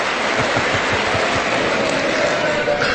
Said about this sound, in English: And they all stand up again. And the Democrats, because they don't want to applaud President Trump, a lot of them are turning their backs on President Trump and applauding these women in white.